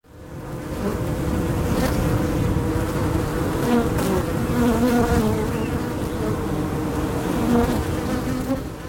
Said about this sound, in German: Jetzt, du bekommst gleich nicht mehr mit, wenn die beiden gestochen werden von den Bienen draußen.